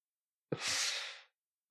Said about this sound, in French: Je suis désolé, vous m'avez peut-être entendu tousser plusieurs fois, malheureusement je suis très allergique et l'allergie est particulièrement forte ces derniers temps, donc j'ai une sorte de rhinite qui n'arrête pas de revenir, et donc je tousse